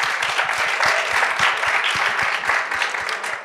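A crowd applauds steadily, dense overlapping claps forming a continuous wash of sound that holds loud throughout before tapering slightly at the end.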